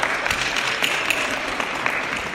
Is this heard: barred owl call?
no